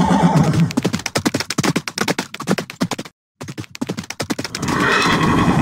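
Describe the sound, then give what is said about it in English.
A horse whinnies loudly, followed by a steady run of hooves clip-clopping in a quick rhythm, a brief silent gap, then more hoofbeats fading into a rushing, noisy background. “Giddy up. We've got some riding to do today.”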